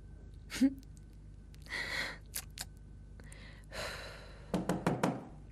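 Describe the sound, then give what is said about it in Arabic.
A quick cluster of four or five sharp knocks on the door of a home lands near the end, preceded by a few breathy, rustling bursts and isolated taps; nobody speaks. “وقت بدقوا الباب وما حدا بيفتح يعني ما في حدا بالبيت، او من كل ما بدنا نفتح.”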